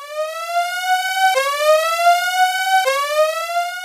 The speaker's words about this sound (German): okay, jetzt muss ich hier doch einen Spoiler-Alarm, aber wahrscheinlich hier kommt es wahrscheinlich ein Spoiler-Alarm.